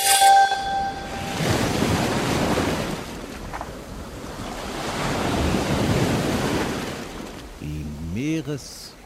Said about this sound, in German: Die Meereswellen rauschen an den Strand und das kostet ja eigentlich gar nichts.